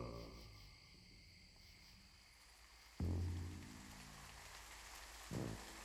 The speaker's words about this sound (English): It is 2 a.m. Rain has fallen and created many water puddles in the streets of Harlem.